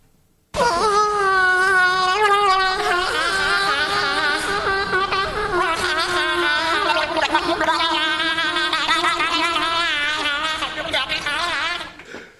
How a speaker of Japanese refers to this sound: 変なちょっと癖強め白イルカだった。 じゃあちょっと本物聞いてみましょう。